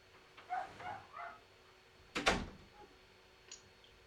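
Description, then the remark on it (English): A dog gives a few quick, muffled barks in a row, heard faintly, followed by a single sharp knock or thump; no one speaks. “Take care of the dog.”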